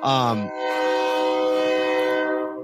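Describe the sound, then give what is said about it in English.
A loud train horn blares in a sustained, steady tone for a couple of seconds, with a brief burst of voices at the very start. “I hear the train in the background.”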